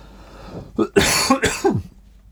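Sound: coughing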